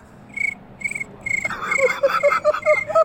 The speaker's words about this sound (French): Tu nous fais le bruit des grillons.